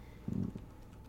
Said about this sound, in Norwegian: Fra mitt rom så kunne jeg høre at noen satt på PC-en. Døra er på gløtt. Så hører jeg at det er noen som begynner å taste på tastaturet. Jeg tenker, å ja, det er mamma som sitter og søker på et eller annet på PC-en.